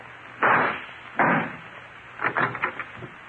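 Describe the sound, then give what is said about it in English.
Two loud, sharp gunshot blasts a moment apart, each with a brief ringing decay, shooting out the lock of a closet door, followed by a quick rattle of smaller knocks and clatters as the lock and door give way. “Then shoot out the lock.”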